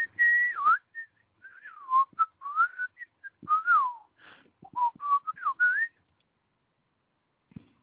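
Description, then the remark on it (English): A person whistles a loose, improvised freestyle melody for about six seconds, the pitch sliding and warbling up and down in short phrases, clear with no talking, then silence. “You like that freestyle whistling?”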